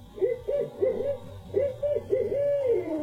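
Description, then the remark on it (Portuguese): An owl hoots in the trees in a telling of The Gruffalo story: about five mid-pitched, wavering hoots in a steady rhythm, each rising and falling slightly, fairly loud with no talking over them. “Sim, sim, é a coruja, disse ele.”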